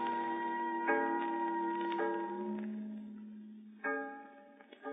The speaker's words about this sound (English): Listen to the fog bell, Hugh Williams. Aye, aye. We must be very near the shore.